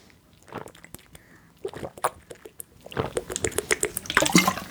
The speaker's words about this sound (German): wir trinken alle mal einen Schluck